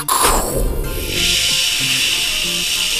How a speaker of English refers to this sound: And just like that, it started to rain.